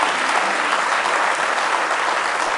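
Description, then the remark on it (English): Sustained applause from a church audience giving a hand clap of praise during a morning service, dense overlapping hand claps forming a steady, loud wash of sound with no pauses, lasting a few seconds. “Let's give him one more hand clap of praise if you love him this morning.”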